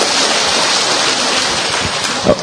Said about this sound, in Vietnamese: Ông cụ 80 tuổi đi với, đó, đang giơ tay đó thưa anh chị em. Chúng ta vỗ một tràng pháo tay chào mừng ông.